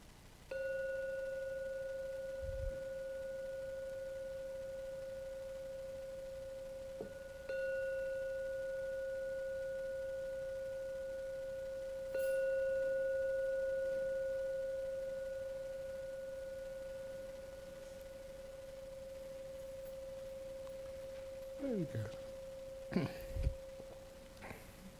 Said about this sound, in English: I'm now going to ring the gong 3 times. Please listen to each sound of the gong. The third sound finishes. It's time to come out from the meditation.